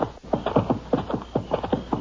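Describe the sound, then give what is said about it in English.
A horse's hooves clip-clop in a quick, steady rhythm, about a dozen hollow knocks in two seconds, fairly loud, with no voices. “Get him off that horse.”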